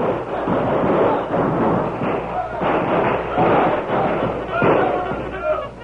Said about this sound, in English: For the next 10 minutes, the banks of the river echoed with shouts and shots and the shrill braying of the mules.